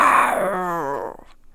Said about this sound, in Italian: Il leone ci salì sopra, allineò le due zampe e fece un forte ruggito di gioia.